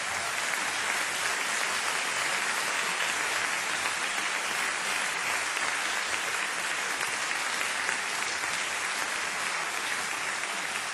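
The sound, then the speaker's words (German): Sustained applause from an audience at a band concert, an extra round for a soloist from the band's own ranks: a dense, steady crackle of many hands clapping at an even, fairly loud level for the whole stretch, with no voices rising above it. “Und ich finde, der hat schon jetzt einen extra Applaus nochmal verdient.”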